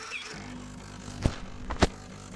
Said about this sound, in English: to put your chocolate paste or chocolate powder into your cup, and then with the machine that by then will be in front of you, you are then going to run just a tiny little bit of hot water into the cup. Here we go, let's see if it's going to work.